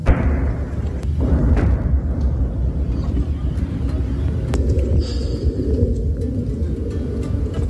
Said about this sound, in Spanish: La cadena COPE ha podido escuchar esos bombardeos, esas explosiones intermitentes, y a todo esto mientras escuchábamos el sonido de los aviones israelíes sobrevolando Rafah.